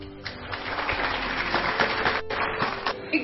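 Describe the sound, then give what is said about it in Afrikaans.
An audience claps steadily, a dense wash of many hands with a few sharper individual claps standing out, sustained at a fairly even level throughout. “Gooi se hande klap.”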